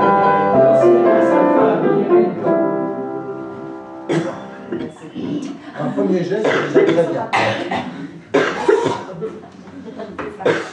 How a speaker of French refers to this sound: Ça décrase un peu le corps vocal, on tousse un bon coup, puis ça marche.